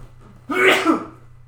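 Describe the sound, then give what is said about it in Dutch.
One sneeze, made turned away from the microphone, a short breathy burst that rises and fades in under a second, slightly distant and muffled, over a faint steady hum with no talking. “Oh, amai, ik ga niezen. Ik zal het ver weg doen.”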